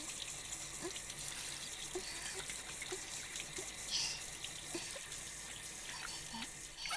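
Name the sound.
shower water running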